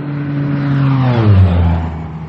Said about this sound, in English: Excuse me. I can't hear you. There's an airplane.